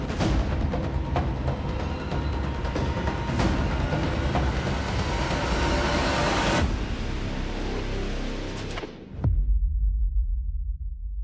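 A train rumbles along the tracks with a dense, loud roar and occasional sharp clacks, then abruptly drops away to a low, steady rumble near the end.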